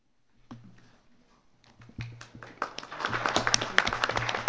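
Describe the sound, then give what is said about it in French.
Audience applause at the UN Office at Geneva, approving a proposal by acclamation, starts with a few scattered claps, then swells into dense, steady clapping from a sizable crowd, growing louder toward the end. “Et j'aimerais d'abord que vous acceptiez ou refusiez cette proposition par acclamation.”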